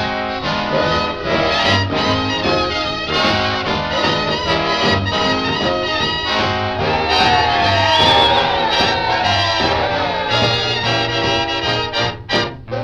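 A large crowd cheers and shouts loudly and continuously, with scattered whoops and high rising yells standing out over the steady roar near the middle.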